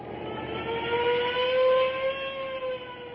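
A car engine revs up with a rising whine and pulls away, its steady hum swelling briefly before holding, fairly loud with no voices.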